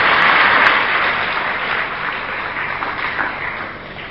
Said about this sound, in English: Clap, yes.